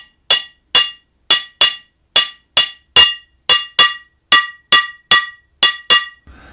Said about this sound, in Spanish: es que hay algo que se llama campana o cowbell, ¿no? El sartén sí le da un sonido muy, muy rico y era lo que más se acercaba a lo que es la campana, ¿no?